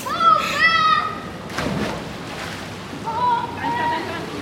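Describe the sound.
Children shout and squeal excitedly while water splashes loudly in a swimming pool, a lively burst of pool play with echoing voices on either side.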